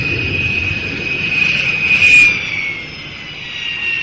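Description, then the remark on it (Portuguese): A propeller airplane carrying the Manchester United squad roars steadily during takeoff from Belgrade in sunny weather, its engine drone loud with a high whining tone, swelling to a peak midway before easing slightly. No one speaks. “Pouco tempo depois, o avião decolou e fez a primeira parada prevista em Munique, na Alemanha, para reabastecimento.”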